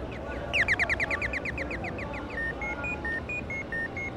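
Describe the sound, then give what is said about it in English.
Pedestrian crossing signal on Madero Street in downtown Mexico City chirps in a fast, even run of bright, high beeps, then shifts to slower tones alternating between two pitches, over a steady rumble of street traffic and crowd noise. “Pedestrian lights chirp on Madero Street in downtown Mexico City, where about 350,000 people walk every day.”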